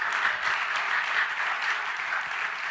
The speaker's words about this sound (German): Ist das nicht herrlich? Leute, lasst uns dem Herrn einmal einen kräftigen Applaus geben. Das ist wunderbar.